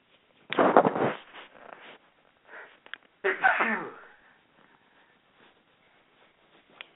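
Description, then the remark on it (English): Two sudden, forceful sneezes, the second following a few seconds after the first, each a sharp explosive burst that trails off into near silence. “I don't have a sneeze button, but that's what that was.”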